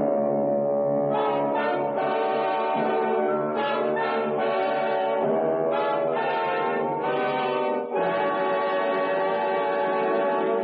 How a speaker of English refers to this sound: listening to the foghorn and the beat of the ship's engines, when... Well, I couldn't see a thing. I ran in the direction of the sound.